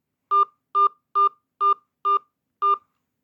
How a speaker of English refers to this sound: Please enter your account number, followed by the pound sign. Enter your five digit zip code, followed by the pound sign.